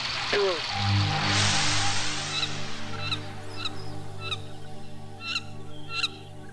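A female wood duck gives a run of thin, plaintive squealing calls, repeated about every half second, heard over a steady low droning tone in the background.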